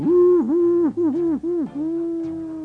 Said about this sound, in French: Le lendemain, il alla consulter Ulule, le hibou, qui logeait dans le clocher de l'église.